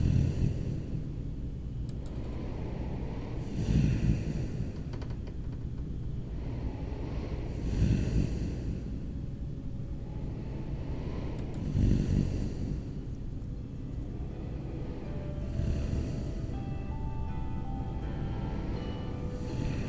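A man snores in slow, regular rumbling breaths every four or five seconds, over a steady low background hum with no talking.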